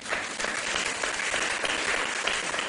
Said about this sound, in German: Können Sie mir mal noch einen Applaus geben?